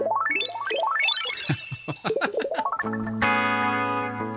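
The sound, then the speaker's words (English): Bright, bell-like guitar effect tones from a delay pedal, in the key of A, ripple upward in quick shimmering arpeggios, then settle into a sustained, ringing chord with rich overtones. No one speaks. “so I have this like bell kind of thing for nasa key of A.”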